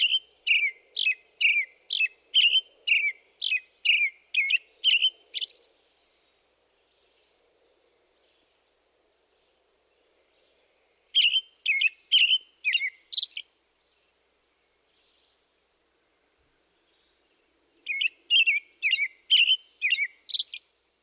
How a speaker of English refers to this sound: Let's start with the American Robin, whose song best exemplifies this group. The Robin's song is a lengthy carol consisting of a series of short, up-and-down phrases. Here it is.